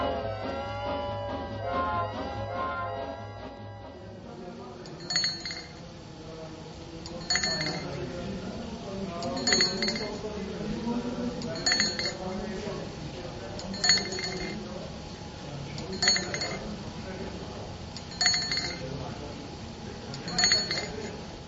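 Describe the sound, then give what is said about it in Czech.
The stirrer warning bell of a still at a public fruit distillery in Czechia rings in bright, metallic clinks about every two seconds, roughly eight times, steady and regular over a low mechanical rumble with indistinct voices in the background, signalling that the mash in the kettle is being stirred. “Slyšíte takzvané zvonění paleník, aby i zvukově byl orientovaný, zda mu se surovina v kotle míchá.”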